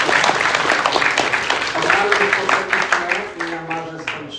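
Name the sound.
audience applause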